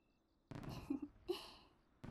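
sound effect, fireworks bursting

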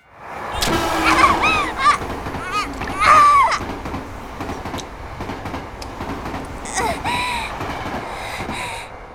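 vehicle, train passing by

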